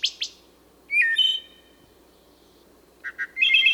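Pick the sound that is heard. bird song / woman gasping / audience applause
bird song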